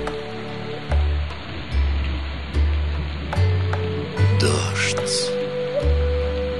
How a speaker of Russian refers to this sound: Капли стучат по стеклу, их монотонный ритм отражается в сердце, поднимая из глубины души бессознательную тоску и ностальгию почему-то безвозвратно утраченному.